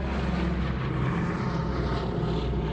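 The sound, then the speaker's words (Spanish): A steady, loud drone of propeller airplanes carrying paratroopers passing overhead before the paratroopers jump, a dense low rumble that holds constant throughout with no voices. “Primero vienen unos aviones que eran los aviones con nuestros paracaidistas que pasan por arriba de nosotros y entonces se tiran los paracaidistas.”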